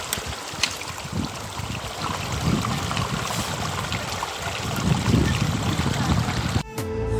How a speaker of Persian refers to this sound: همین به سمت قله ساکا داریم میان، کیویی رسیدیم، صدا آب خیلی قشنگی، همه از دار مهمون میکنم به یک جرعه صدای آب.